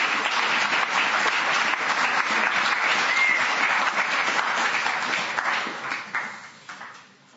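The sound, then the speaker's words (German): Sustained applause from an audience at a mission exhibition, given as thanks to a speaker: a dense steady crackle of many hands clapping that holds strong for several seconds, then thins out and fades away toward the end. “Herzlichen Applaus.”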